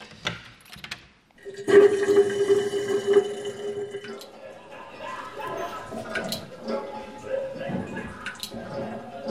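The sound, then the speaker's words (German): Water rushes and gurgles out of a black sewer pipe onto a drain grate on the floor of a small cabinet art installation, starting abruptly after a quiet moment and continuing steadily with splashing and trickling, moderately loud. “An der Tille des Schäftli ist ein schwarzes Kanalisationsrohr, am Boden ein Abflussgitter und dazwischen ist nichts. Das Wasser, das gehört man nur.”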